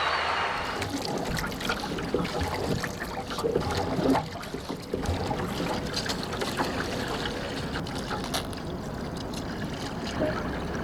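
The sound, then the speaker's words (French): An adapted rowing boat moves steadily through water, a continuous wash of splashing and rushing with faint rhythmic strokes, fairly loud, with no voices. “Je n'ai pas quelque chose qui me différencie des autres sportifs de haut niveau, si ce n'est que voilà, il y a des adaptations qui sont faites sur le bateau.”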